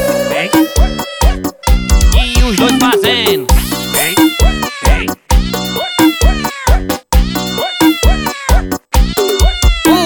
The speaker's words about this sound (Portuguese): Rapaz, eu não sei o que mais eu faço, não. A gente vai ter que dar um jeito com esses gatos aí em cima do telhado, viu?